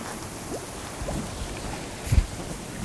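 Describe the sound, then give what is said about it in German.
Soft, continuous watery bubbling and gurgling fills the background, with a brief louder low gurgle near the end. No one speaks. “Ja, ich höre so ein leichtes Blubbern.”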